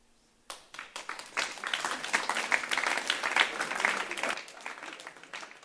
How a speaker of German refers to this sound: Geben wir Ihnen mal einen herzlichen Applaus wirklich für das Vorwärtsgehen, was Sie haben.